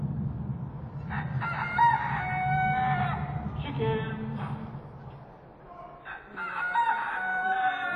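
chickens crowing and clucking

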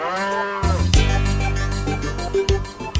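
cows mooing

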